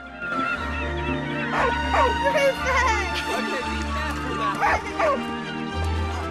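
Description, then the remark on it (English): Rufus the dog barks and yips excitedly in short, irregular bursts, bright and mid-pitched, as he bounds towards the sea on a sun-soaked beach with sand dunes, over a steady low droning background bed that continues throughout. “Rufus bounds towards the water.”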